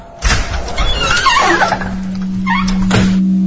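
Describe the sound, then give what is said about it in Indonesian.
A door is opened with a long, wavering hinge creak that rises and falls in pitch like a drawn-out squeal, after a soft knock at the start, while a low steady hum sets in. “Dan kali ini terdengar juga suara pintu dibuka.”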